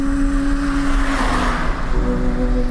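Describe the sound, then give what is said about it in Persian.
A car drives steadily along a road, with a continuous engine drone, humming tones, and broad tire and wind noise that swells slightly midway, heard from inside the vehicle. “و بله، با اینکه ما اصلا قرار نبود توی این ماشین توی این جاده از این حرفو بزنیم، میزنیم.”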